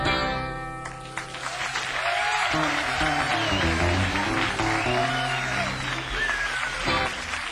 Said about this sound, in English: Thank you. Thanks very much for the clap. Jesus, that's nice.